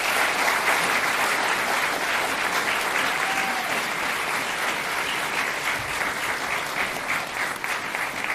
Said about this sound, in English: Thank you. Can we have a round of applause for the debate?